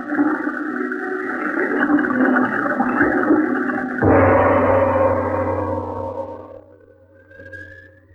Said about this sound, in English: And to make the job complete, I'll just open those spigots and flood this room.